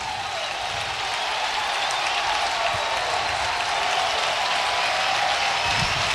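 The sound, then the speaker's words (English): A baseball stadium crowd cheers and claps during a two-strike at-bat in a steady, dense roar that holds at an even loudness for about six seconds, with no voices standing out. “Crowd sensing the moment.”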